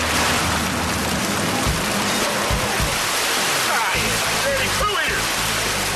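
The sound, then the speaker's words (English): A dense mass of about 30,000 waste-eating tilapia and carp thrash and splash in a net, producing a loud, continuous churning of water that barely lets up for the whole stretch. “Here's our net. 30,000 poo-eating fish coming at you.”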